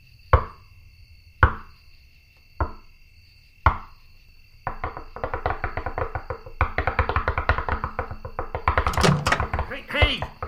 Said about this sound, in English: Okay, no one's around. Okay, so here goes with the secret knock.